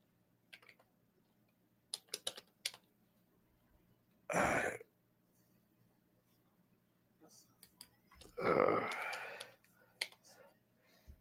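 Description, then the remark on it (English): Scattered clicks of computer keyboard typing come in short irregular bursts, interrupted twice by a loud throat clearing or cough; no one talks. “I gotta pull this one up. Let me grab my other keyboard.”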